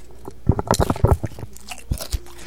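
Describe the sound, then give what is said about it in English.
Loud crunching of potato chips being chewed by a man shoving chips into his mouth, a quick burst of crisp bites followed by a few slower crunches, with no talking. “As he shoves chips into his mouth. Eat it. Let's hear the crunch.”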